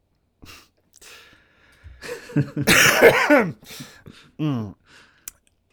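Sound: coughing fit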